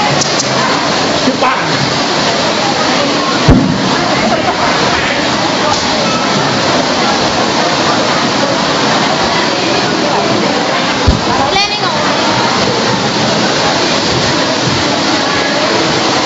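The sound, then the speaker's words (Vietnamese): Heavy rain pours down in a steady, dense roar that fills the whole recording, with occasional sharper knocks and splashes cutting through the constant wash. “Rồi mấy chị em lên, mau cái mưa to.”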